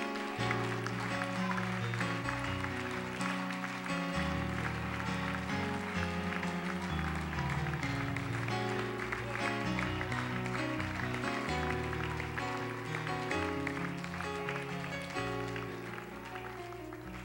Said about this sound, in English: In Jesus' name, would you give the Lord a hand clap of praise right now?